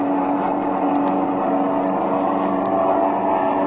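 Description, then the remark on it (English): A steady, loud airplane engine drones continuously in flight as the plane pulls alongside another aircraft, a thick rumbling hum with a constant pitch and a few faint clicks over it, with no voices. “Here, I'll pull in closer and throttle this engine.”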